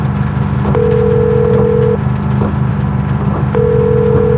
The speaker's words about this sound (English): She reached into the glove compartment and found a cell phone. She flipped it open and dialed the number on the paper that had been in Tom's pocket.